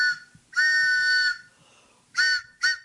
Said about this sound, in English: Yes, I hear a train. Could it be the WBAI pitching train?